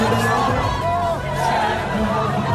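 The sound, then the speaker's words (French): A large crowd on the Champs-Élysées in Paris roars and cheers around a double-decker bus carrying two rapper brothers on parade, a dense, steady wash of blended voices and shouts, loud throughout with scattered higher calls rising above the din. “Alors cette vidéo a été captée sur les Champs-Élysées, il y avait beaucoup de monde autour du bus et du coup la circulation a été un petit peu perturbée.”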